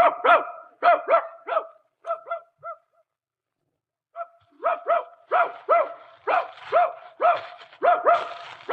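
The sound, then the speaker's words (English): A dog barks in quick, excited runs as it sets off to hunt rabbits: a burst of sharp barks, a brief pause, then a longer, more insistent volley, fairly loud with no talking. “Okay, suppose I get my gun and my dog and we look for a couple of rabbits, huh?”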